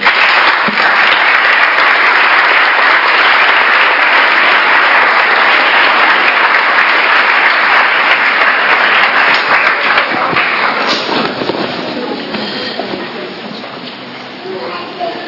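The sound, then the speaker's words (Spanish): A church audience at a confirmation service applauds loudly to show it accepts the confirmation candidates, a dense, steady roar of clapping that holds for about ten seconds, then gradually thins and fades as it trails off. “Si esta comunidad también los acepta, lo expresa con un fuerte aplauso.”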